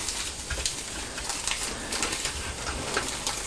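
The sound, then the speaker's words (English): A plastic waterproof nappy crackles and rustles steadily, with irregular sharp crinkles popping through a continuous papery hiss. No voices are heard. “Sue's nappy's waterproof, isn't it? Yeah. Can you hear it crackling? Crackles, doesn't it? Made from plastic.”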